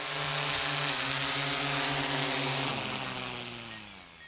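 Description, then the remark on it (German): A drone buzzes steadily overhead, its whining motor hum holding several pitched tones that drift slightly lower near the end as the sound fades a little. No one speaks. “Ja, und bevor jetzt einer losschimpft das nächste Mal über die lästigen fliegenden Lärmschleudern, erst mal schauen, ob die Drohne nicht vielleicht im forstlichen Staatsauftrag unterwegs ist.”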